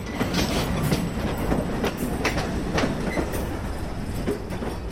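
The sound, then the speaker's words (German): A freight train rolls steadily along the rails, with a dense low rumble and repeated sharp clicks from the wheels passing over rail joints, at the Limmental marshalling yard in Switzerland after a final brake check. No voices are heard. “prüft das letzte Mal die Bremsen und macht den Zug fertig, damit er weiterfahren kann”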